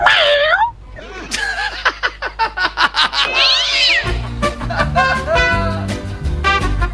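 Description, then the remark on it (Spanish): A voice imitates a cat, opening with a drawn-out meow followed by a quick series of short rhythmic vocal bursts, while background music with a steady bass line comes in partway through. “Mi esposa dice que soy un lindo gatito.”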